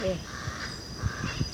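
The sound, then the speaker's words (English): Two short, harsh caws from a crow close by rise over a low, rumbling background, with quieter thumps in between and no clear speech. “There's a crow close to us and a black-billed parrot overhead.”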